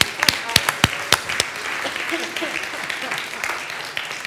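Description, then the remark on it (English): An audience applauds during a religious service, starting with a few sharp, distinct claps and swelling into a steady, dense wash of clapping from many hands that carries on throughout. “Let's applaud this day, okay?”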